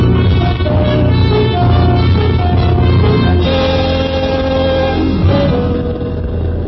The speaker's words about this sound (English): You leave the unconscious Rigo in the car and the motor running. You close the garage doors and hurry back to the railroad station.